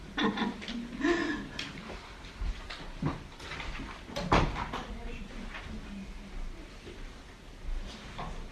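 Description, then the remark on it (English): Chairs scrape and bump across a floor as people get their chairs and move them, an irregular scatter of knocks and drags, with a room full of people murmuring and a little laughter mixed in. “So get your chairs and move.”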